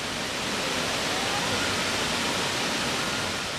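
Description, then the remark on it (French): Steady, dense rushing of water in a stream splashing down onto rocks, a continuous hiss and roar with no pauses, with no voices. “Donc on brandit son jarre, tombant sur les rochers.”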